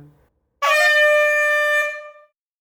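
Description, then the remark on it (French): A single loud horn-like start signal for a group of cyclists blares steadily for about a second and a half, a bright, buzzing tone rich in harmonics, preceded by a faint murmur. “Dès que vous entendrez ce signal sonore, vous êtes invité à rouler doucement, par deux, en direction de la rue intérieure.”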